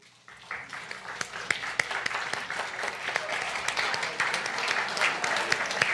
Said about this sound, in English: And I know there are many of you who volunteer in various ways and have through the years here. So if you'd be willing to acknowledge yourself by standing and let us give you a nice round of applause.